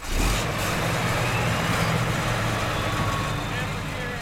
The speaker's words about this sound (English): the crop manager for the VTC farm, starts up the tractor.